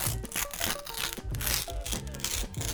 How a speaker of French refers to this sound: c'était le son d'une feuille de papier que l'on déchire lentement. C'était mon idée, ça.